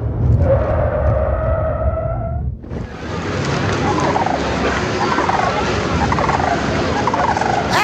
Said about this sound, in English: Ah! A bird's attacking my popcorn!